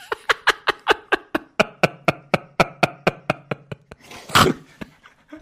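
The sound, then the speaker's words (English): A person pants rapidly and rhythmically, around fifteen short breaths in a steady pattern, finishing with a louder, rougher exhale as they catch their breath. “Take a breath. You're not breathing enough.”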